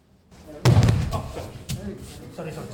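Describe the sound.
A body slams down hard onto a mat with one loud, close, heavy thud, followed by a short rumbling settle and faint voices in the background.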